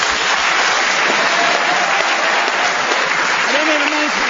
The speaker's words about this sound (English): And Ross, I think we'll have a round of applause for your contribution.